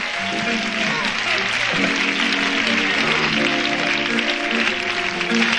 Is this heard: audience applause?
yes